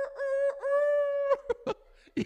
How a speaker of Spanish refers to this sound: Yo había puesto el gallo a las 4 de la mañana. Creo que nos habíamos dormido a eso a las 3:30 y a las 4 comienza el gallo mío, hermano, a sonar.